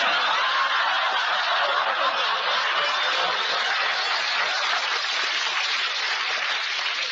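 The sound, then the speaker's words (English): Steady, dense applause from the neighbors keeps up at an even level for about seven seconds: a continuous crackling wash of clapping with no voices over it. “The neighbors are applauding it.”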